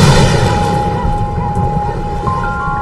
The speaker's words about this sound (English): It sounds like thunder. What sounds like thunder?